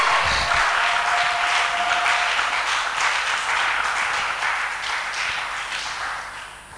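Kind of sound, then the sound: crowd, audience clapping and cheering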